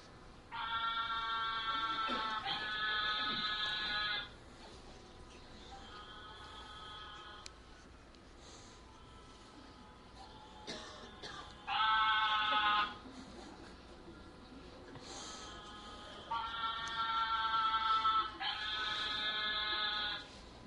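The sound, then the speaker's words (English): Narrow-mouthed toads give a series of harsh, nasal buzzing mating calls, about half a dozen loud drawn-out bleats lasting a second or two each, some back to back, with quieter gaps between. “This is the mating calls of the narrow-mouthed toad.”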